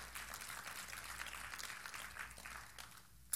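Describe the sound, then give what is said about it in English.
An audience claps together in a steady, dense burst for about three seconds, fairly quiet, before tapering off at the end. “That was a good place to clap.”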